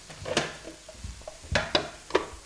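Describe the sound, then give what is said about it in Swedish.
Food with fresh thyme and soy sauce sizzles softly as it fries in a pan while a utensil stirs and scrapes, making several sharp clinks against the metal, with no one talking. “Och så lite sojasås. Ja, vi steker det nu för att förhöja smaken.”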